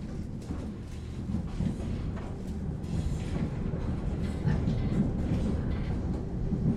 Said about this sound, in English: gatang gatang rattle the wheels of the railway train.